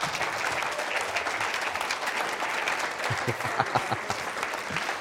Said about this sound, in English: Because I want you guys to see, give them a round of applause, come on.